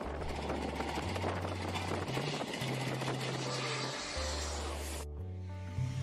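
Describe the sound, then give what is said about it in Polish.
A loud, steady aircraft engine roar as an airplane lands on a runway under renovation, with broad rushing noise and a low droning hum beneath, continuing for about five seconds before cutting off abruptly. “a zacznijmy od sytuacji, która nie powinna się wydarzyć i jej konsekwencje mogły być naprawdę poważne, czyli nieporozumienie i lądowanie samolotu na remontowanym właśnie pasie startowym.”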